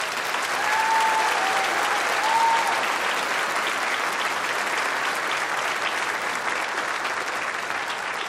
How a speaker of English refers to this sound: Can we give a round of applause in glory to God